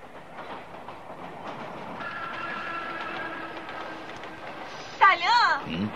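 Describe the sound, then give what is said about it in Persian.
A train rumbles past with steady clattering on the rails and a sustained metallic whine, the noise holding fairly loud throughout before a brief, sharp warbling sound cuts in near the end. “من مسافرها رو به دسته های هزار تایی تقسیم میکنم و قطارها رو لازم باشه به راست میفرستم، لازم باشه به چپ.”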